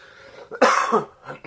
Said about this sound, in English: Apologies. Trying to get over a cold, and I've still got a bit of a cough.